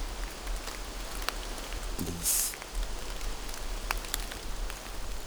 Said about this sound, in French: Perles de pluie, nuages de brume, vent qui bruisse, auditeurs, auditrices, soyez les bienvenus pour cette carte postale sonore.